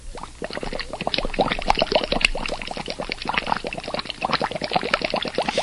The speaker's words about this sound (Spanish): Y nuevamente, nuestras miradas puestas en la Isla del Hierro, burbujas en el cono del volcán del Hierro, que continúa con su proceso de desgasificación.